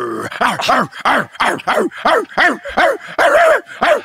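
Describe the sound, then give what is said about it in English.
A person vocally imitates a furious dog, letting out a rapid string of about eight loud, snarling barks in steady rhythm, with no other sounds. “Here's my mad dog.”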